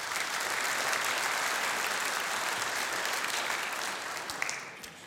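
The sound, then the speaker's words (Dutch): A crowd claps steadily for about five seconds for the makers of a short film, a dense, even wash of hand claps that thins slightly toward the end, with no voices over it. “Ik vind dat best even een applaus voor degene die dit gemaakt hebben.”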